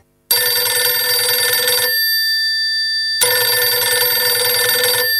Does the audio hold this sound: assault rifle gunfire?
no